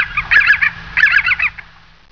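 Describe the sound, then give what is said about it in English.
An eagle screams twice in quick succession, loud, each burst a rapid run of harsh, shrill cries, with no talking around them. “Louder than an eagle screams.”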